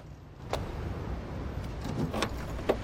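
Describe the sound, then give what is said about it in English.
Keys jingle, with a few sharp metallic clicks spread over a few seconds, like a car door being unlocked, over a low steady background hum. “A similar age to Liam, Kev gets into his own car, exasperated as Liam marches back towards his estate and unlocks the door with a dark, brooding frown.”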